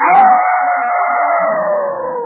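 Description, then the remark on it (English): A person's voice imitates a wild female dog calling to a male dog from a distance, with one long, drawn-out howl that holds steady and slowly sinks in pitch, loud, with nothing else around it. “The wild girl dog called to the boy dog, at first from a distance, like this.”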